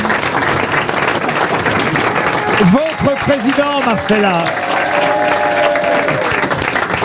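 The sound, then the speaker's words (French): An audience claps and cheers loudly and steadily throughout, a dense unbroken wash of applause as Titoff whips up the crowd in the hall, while a man speaks over it through the second half. “Ces acclamations... Et une bonne réponse. Que vous entendez, c'est parce que Titoff est en train de ça racoler.”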